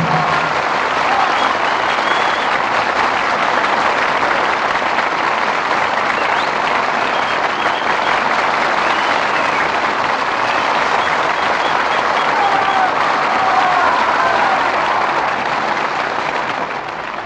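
Steady, loud applause from an audience after a performance of The Jolson Story, as Al Jolson, Evelyn Keyes, William Demarest and Ludwig Donath return to the footlights, a dense wash of clapping hands that holds at an even level for the whole stretch without letting up.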